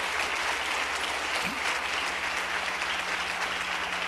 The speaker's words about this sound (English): I believe we ought to give him a good clap offering. Thank you, Jesus.